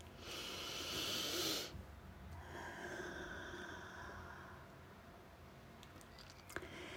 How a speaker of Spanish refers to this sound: Y comenzamos con una respiración profunda que nos trae aquí.